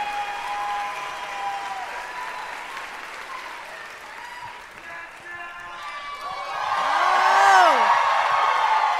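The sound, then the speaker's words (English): A crowd claps and cheers loudly as White House Press Secretary Jen Psaki is welcomed to the stage, with whoops and shouted voices rising over sustained applause that swells toward the end. “I gave them like $100 each to cheer aloud.”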